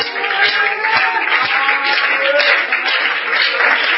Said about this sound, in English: Let's just thank the Lord. Let's just give the Lord a hand clap offering of praise right now.